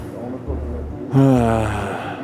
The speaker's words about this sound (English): He runs up the stairs, breathing hard because of his mask, looking for a county IT employee.